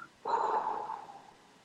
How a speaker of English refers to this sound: Breathe in deeply. a really long breath, any tempo that feels right for you, and then out.